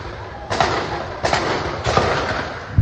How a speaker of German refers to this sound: Unablässig hören sie die Raketengeräusche und die Detonationen des Abwehrsystems Iron Dome.